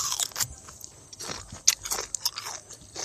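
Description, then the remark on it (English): Wet, crunchy chewing of takeaway butter chicken while sitting on a couch, with irregular bites and smacking mouth sounds repeating over a few seconds, moderately loud with no voices. “After she had finished eating, she watched the news like she did every night.”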